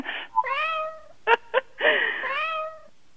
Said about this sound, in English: That is one sick feline.